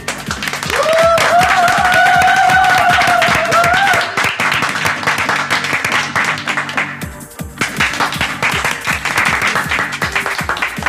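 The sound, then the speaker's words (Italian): Steady, loud applause from a small group for two DJs claps on for about eleven seconds, with a drawn-out whistle or cheer rising over it near the start and a brief lull midway. “Un applauso a entrambi i DJ.”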